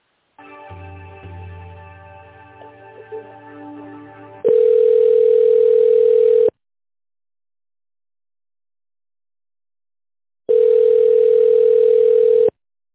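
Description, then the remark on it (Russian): As a phone call is transferred and forwarded to a mobile phone, hold music gives way to a steady ringback tone, two long rings about two seconds each separated by a long silent gap, heard thinly through the receiver. “Сейчас переключу вас.”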